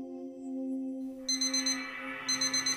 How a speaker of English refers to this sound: 4 a.m. The alarm goes off.